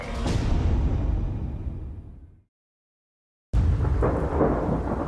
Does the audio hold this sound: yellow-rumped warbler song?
no